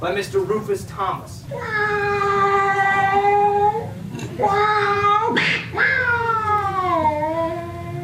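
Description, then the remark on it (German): Loud cat yowls stretched into long, drawn-out meows, three sustained cries with sliding pitch, sounding almost sung over a faint low background, from a 1953 song. “Wichtig, erstens, es wurden dafür keine Katzen gequält und zweitens, sagt mir bitte, ob ihr das kennt.”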